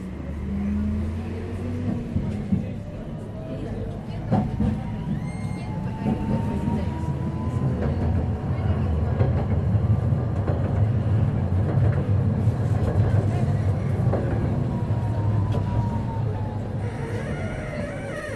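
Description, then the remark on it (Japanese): A passenger vehicle accelerates away from a stop, its engine rumbling low and steady while a whine rises and then levels off over about eighteen seconds, heard from inside the cabin. “はい、発車いたします。ご注意ください。”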